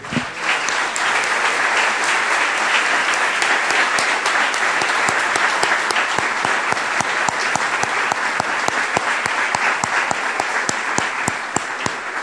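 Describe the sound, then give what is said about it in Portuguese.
An audience applauds God steadily for several seconds, a dense, sustained wash of many hands clapping with some sharper individual claps poking through, fairly loud, with no talking over it. “Ah, nós temos que aplaudir de novo o nosso Deus agora.”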